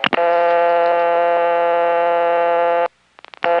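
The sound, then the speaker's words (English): A harsh, buzzy 1970s telephone dial tone on a rural line in a small community in Virginia holds steady and loud for about three seconds, thick with harmonics, then cuts off, followed by a few sharp clicks. “Meanwhile, what I would hear when I picked up the phone in that rural place was...”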